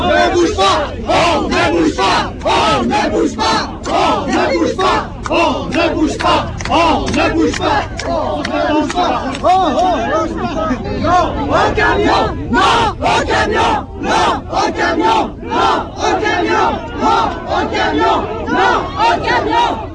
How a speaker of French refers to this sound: Un camion italien est bloqué devant la route qui monte au Mont Blanc. Là, il y a une cohue entre les gendarmes et les manifestants.